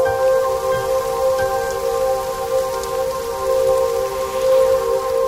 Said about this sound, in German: Zu sehen, wie es regnet.